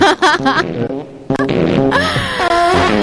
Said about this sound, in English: Oh, wow. Those farts are really loud.